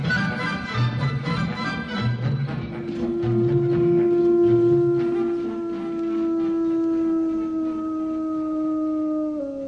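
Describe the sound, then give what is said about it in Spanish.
A wolf howls in one long, steady sustained note that slowly sinks in pitch, with other rising, wavering howls and yips overlapping early on, loud with no one speaking. “El sonido del lobo a mí me recuerda muchísimo a ese momento en que un tenor, como puede ser Krauss, lanza el último canto, ¿no?”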